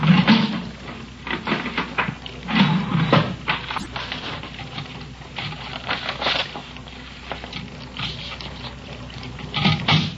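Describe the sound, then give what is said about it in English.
A printer runs through a page, its mechanism chattering in rapid clicks and whirring bursts with a low motor hum, steady and mechanical for about ten seconds, with no talking. “Okay, one print.”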